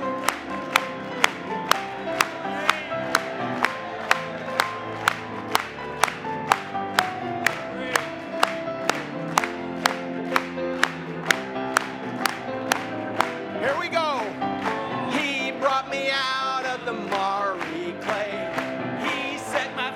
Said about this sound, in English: Let's clap it to him one more time.